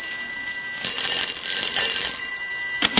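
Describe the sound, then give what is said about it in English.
A telephone bell rings loudly and continuously for about three seconds, a shrill, high-pitched metallic trill with no voices over it. “I'll answer it.”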